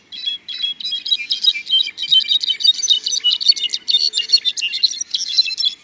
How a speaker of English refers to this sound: Flute-like voices of rufous-browed wrens echo through the forest.